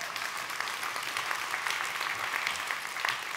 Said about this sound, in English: Go ahead, clap for that.